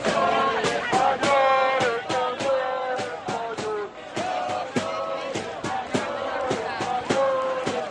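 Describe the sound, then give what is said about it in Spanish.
A large crowd of hundreds of thousands of demonstrators at a protest against the amnesty in Barcelona, Catalonia, on 8 October shouts and chants together in loud, sustained unison, punctuated by sharp rhythmic beats like claps or drum hits running steadily throughout. “el minuto final de este Mediodía COPE es para recordar cómo ha ido esa manifestación en Barcelona en contra de la amnistía este 8 de octubre, en el que cientos de miles de españoles de Cataluña han decidido decir basta y gritar en mi nombre no.”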